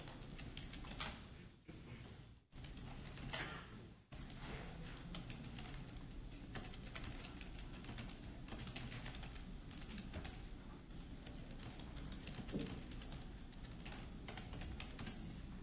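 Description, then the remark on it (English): Steady typing on a computer keyboard during a meeting, a continuous stream of quick clicks and taps with brief pauses, over a faint room hum and no speech. “How does it feel to have the whole world looking at you when you're typing?”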